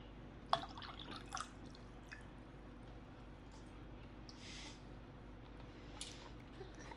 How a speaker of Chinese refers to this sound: 我渴了，给主人倒杯水。要温的，不要太烫，也不要太冷